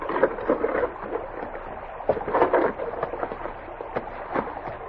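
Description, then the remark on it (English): Wooden rowboats grind and scrape up onto a gravelly shore as they are beached, with a steady rough crunching broken by a few sharp knocks and thumps of hulls settling, moderately loud. “They beached the boats and got out to face a grinning Pryor in his detail.”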